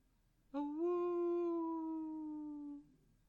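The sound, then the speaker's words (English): A single long, loud howl from a human voice imitating a werewolf. It rises briefly, then holds a steady drawn-out tone for about two seconds before cutting off, heard alone over faint background. “You hear this howl. It's a very human howl. It is a werewolf, after all.”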